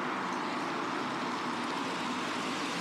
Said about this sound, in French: D'ailleurs, voici la voiture. Tu vois là-bas, ils arrivent.